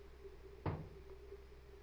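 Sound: car door shutting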